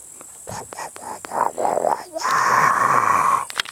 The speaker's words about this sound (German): So, nochmal zum Raten. Wie klingt das Moor? Genau, ihr habt recht. Es klingt so.